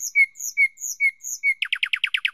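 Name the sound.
nightingales singing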